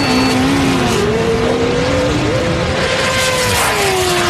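Loud, continuous roar of racing engines, their pitch climbing and shifting as sports cars (a Ferrari, a Porsche and a Corvette) and a motorcycle accelerate hard in a sprint drag race, with no talking over the noise.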